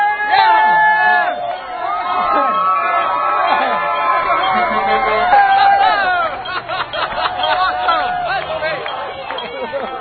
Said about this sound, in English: It's a big crowd, but it's not really an unruly crowd.